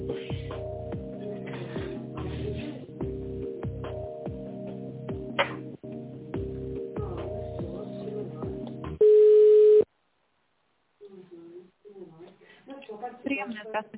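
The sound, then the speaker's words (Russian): Electronic touch-tone telephone tones sound in quick, shifting steps for several seconds as an extension number is dialed in tone mode, then a single loud, sustained beep. A short silence follows before faint voices begin talking over the line. “Пожалуйста, в тоновом движении наберите номер абонента нормально, или возьмите пакет администратора.”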